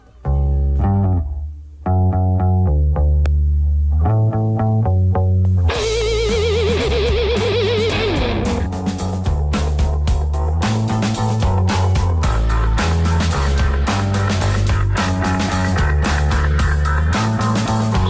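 A 1997 indie rock song plays loudly with no vocals: a bouncy, plucked bass-and-guitar riff opens, then a fuzzy, distorted guitar and driving drums crash in and keep a steady rhythm.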